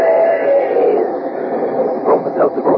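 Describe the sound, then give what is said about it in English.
A steam train effect: a steady, whistle-like hum at first, then rhythmic chugging puffs quickening toward the end, sounding muffled through a narrow, old-radio tone. “But when it's a common sick headache that's got you down, take this tip from our educated train.”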